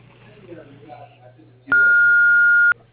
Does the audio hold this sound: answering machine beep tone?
yes